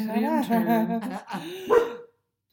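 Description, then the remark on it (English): A dog named Chewbacca (Chewie) barks in a few drawn-out, whiny bursts, loud, ending with one sharper yelp before falling silent. “Angel baby, please stop barking.”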